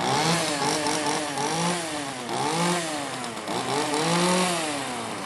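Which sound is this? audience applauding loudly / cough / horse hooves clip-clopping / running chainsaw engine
running chainsaw engine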